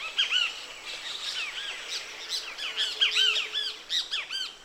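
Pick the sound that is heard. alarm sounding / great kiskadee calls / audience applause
great kiskadee calls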